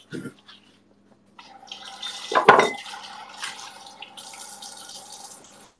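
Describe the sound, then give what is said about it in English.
Water runs steadily from a tap as a beer glass is washed, with a sharp clink and brief splash midway as the glass breaks, then continued running water and faint rubbing sounds. “Gloss mine broke while washing it.”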